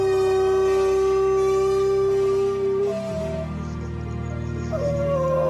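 Dogs howl in long, sustained, wavering notes over a steady musical backing; one howl holds for several seconds before higher howls rise and overlap, with no talking.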